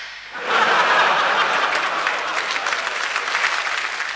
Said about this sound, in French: La foule hurla de plaisir et Glouton rit si fort qu'il faillit s'effondrer dans les pâtés.